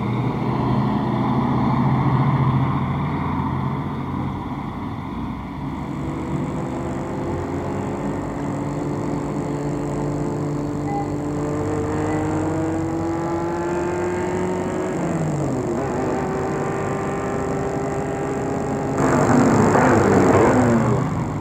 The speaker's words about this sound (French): Une voiture s'est arrêtée devant eux et leur a coupé le passage.